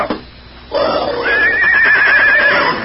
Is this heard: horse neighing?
yes